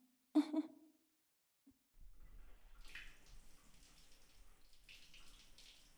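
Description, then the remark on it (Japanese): A brief knock or clunk, a short pause, then shower water starts and keeps running in a steady, broad hissing spray with no voices. “シャワーの熱さは、このくらいですね。”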